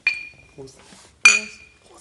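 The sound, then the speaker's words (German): Two bright glass clinks about a second apart, each leaving a clear ringing tone that fades slowly, with brief murmured voices in between, like glasses touched together in a toast. “Cheers. Prost. Cheers.”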